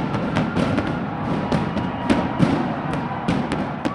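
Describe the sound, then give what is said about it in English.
Fireworks crack and thump in quick, irregular bursts over a dense roar of crowd noise at Busch Stadium moments after the end of a World Series game, the booms sharp, repeating every fraction of a second throughout. “there was euphoria and fireworks moments after the Rangers' David Murphy flied out to left field to end the game”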